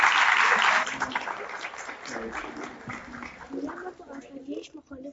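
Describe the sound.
A short, loud burst of audience applause fades out within the first second, and a voice then talks over faint crowd noise for the rest.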